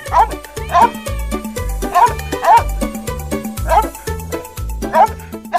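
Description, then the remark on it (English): A dog barks angrily and repeatedly in a steady, insistent rhythm, about one sharp bark per second, fairly loud over a bouncy musical backing with a thumping bass line. It is still angry after chasing cats up onto a roof and a tree. “is barking. He is still angry.”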